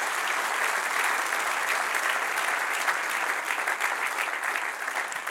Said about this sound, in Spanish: Denle un aplauso al que reina y vive para siempre.